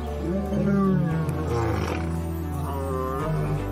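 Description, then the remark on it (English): A lion roars loudly in a lion park in South Africa, a deep, rumbling, drawn-out bellow with a rough throaty growl that swells and holds for several seconds before easing off. “We're here in a lion park in South Africa now, where we can view these creatures in relative safety.”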